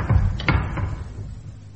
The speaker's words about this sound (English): The passage led to a heavy sealed door. Unable to stifle their curiosity, they broke the seal and levered open the massive door.